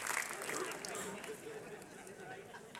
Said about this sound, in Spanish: dale ese aplauso fuerte a Dios y dátelo a ti también.